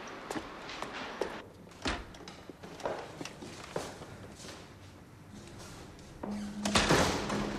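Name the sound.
door opening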